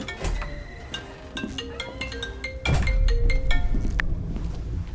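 A phone rings as a wife calls, with a string of short, bright electronic tones repeating in a quick melodic pattern, heard over a low background rumble that grows louder partway through.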